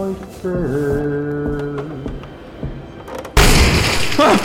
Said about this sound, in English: He's blown a hole through the door. The debris is keeping it closed, but he's looking through the hole.